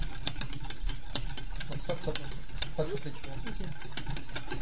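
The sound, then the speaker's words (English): A whisk beats sabayon with wine added in a bowl, making quick, irregular metallic clicks and scrapes over a steady low hum, with no one speaking. “Et on rebat.”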